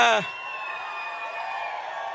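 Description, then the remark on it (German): A crowd cheers and applauds steadily, a dense wash of clapping and raised voices that holds at an even level after a short voice at the start. “Und so ein Applaus, der motiviert ungemein.”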